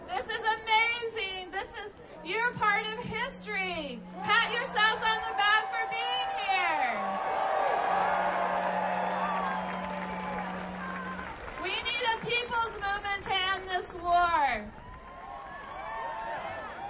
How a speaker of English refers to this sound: Cindy Sheehan, who galvanized the peace movement with her August vigil in front of President Bush's Crawford, Texas ranch, demanding a meeting with the president, was greeted enthusiastically by the crowd.